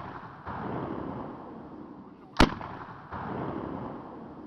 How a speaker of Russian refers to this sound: Не успел он добежать до деда Степана, как раздались еще 2 выстрела.